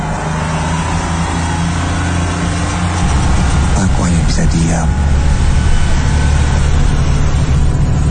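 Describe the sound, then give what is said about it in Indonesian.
A bus engine drones steadily through a ride with a school group leaving a factory visit, a low continuous rumble that deepens and strengthens partway through, while a person speaks over it. “Selama perjalanan di bis,”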